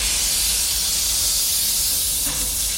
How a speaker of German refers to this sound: So right now we're running off of steam. I'm about to turn off my boiler and the accumulation. Noch ein bisschen Dampf raus, dann stelle ich den Boiler ab. Der Dampf im Kessel reicht für rund 50 Minuten Fahrt.